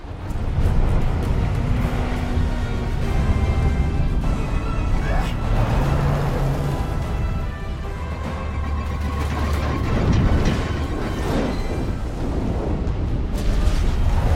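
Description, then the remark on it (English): A tornado roars, a loud, unbroken rumbling wind filling the whole stretch with churning, turbulent noise and deep booming low end, indistinct voices buried beneath it. “You got eyes on the tornado?”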